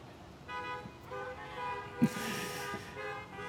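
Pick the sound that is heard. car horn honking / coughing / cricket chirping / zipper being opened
car horn honking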